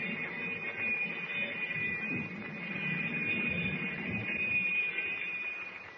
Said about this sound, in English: But even as the alarm bell echoes through the submarine,